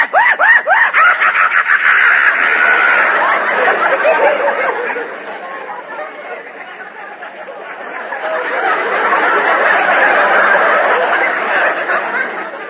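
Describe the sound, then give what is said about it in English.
A voice imitates a hyena's manic screeching cackle, rapid chattering bursts at first, then a sustained wild shrieking that dips briefly and swells back up, loudly. “The maniacal screech of the hyena.”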